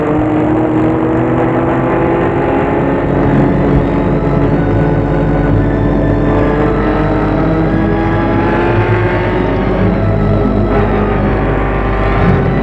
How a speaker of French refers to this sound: La voiture roule.